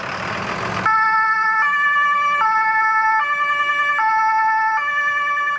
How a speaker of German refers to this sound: Also gerade fährt hier ein großes Feuerwehrfahrzeug nach hinten, rückwärts. Deswegen gibt es dieses Geräusch, großes Gerenne hier